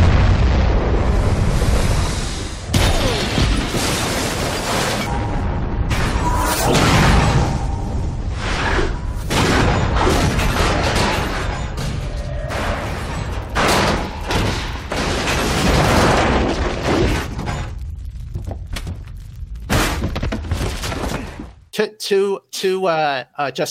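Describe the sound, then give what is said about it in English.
A massive nuclear bomb explosion roars continuously for about twenty seconds, a loud, rumbling blast wave full of crackling and rushing debris, before cutting abruptly to a brief, fluttering tonal sound. “It is a suspension beyond belief and into science fiction to think that somebody can survive a nuclear holocaust because of a fridge.”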